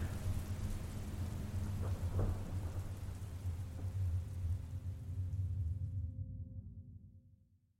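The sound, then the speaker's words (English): Steady rain pours down with a deep, rolling rumble of thunder underneath, filling the whole scene before gradually fading away at the end. No voices. “I have a feeling it's going to rain.”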